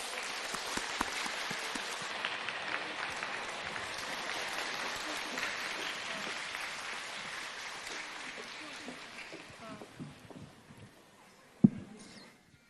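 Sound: audience applause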